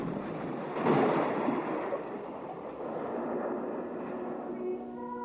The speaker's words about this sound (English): The waves roll in, the shallow frothing water flowing gently over the sand, then ebbing away again.